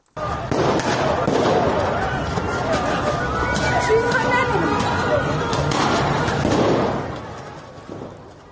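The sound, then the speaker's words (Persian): Sharp, cracking gunshots ring out repeatedly on a street during a protest in Yasuj, Kohgiluyeh and Boyer-Ahmad province, Iran, as tear gas is thrown, mixed with a loud, agitated crowd of protesters shouting and people moving about throughout. “در یاسوج مرکز استان کوکیلو و بوراحمد همچنین اونجا ویدیوهایی هم منتشر شده از شلیک گلوله، پرتاب گاز اشکاور.”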